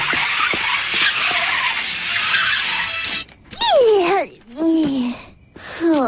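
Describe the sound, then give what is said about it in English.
A car chase plays on a TV: a few seconds of roaring, rushing engine noise, then three loud, wavering tire squeals that swoop up and down in pitch with short gaps between them. “Ooh, car chase!”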